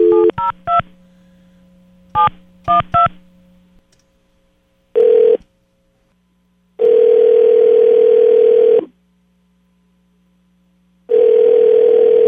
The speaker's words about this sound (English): Call the phone. Calling burner phone.